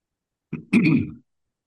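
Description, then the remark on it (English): A loud throat clearing: a short rasp followed by a longer, rougher gravelly push, heard alone in an otherwise quiet setting. “Excuse me a minute while I try to clear my throat.”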